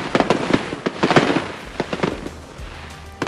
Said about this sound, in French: Il est 4h du matin, il fait nuit et froid. La mer est rouge, miroir de la pluie de feux d'artifice qui éclate dans le ciel. Des petits bateaux klaxonnent en chœur, la foule disparate, Covid oblige, est en liesse le long du chenal des Sables d'Olonne.